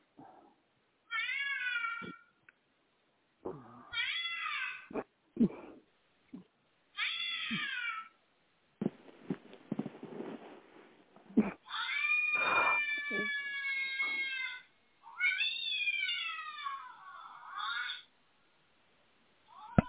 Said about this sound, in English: Can you hear the cats? Can you hear the cats?